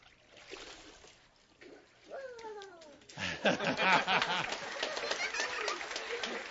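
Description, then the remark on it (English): A brief vocal cry rises, then a loud burst of water splashing and sloshing follows as a woman is immersed during a church baptism, continuing for several seconds as water churns and drips. “All right, if you'd hold your nose so you don't get water in there.”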